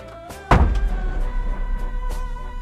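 A heavy door thuds shut with a single deep impact, followed by a low rumbling hum and faint rattles fading afterward.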